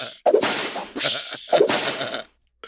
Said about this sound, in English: She was high kicking. They were adding whip crack sounds in there. just like a real drag show, you know?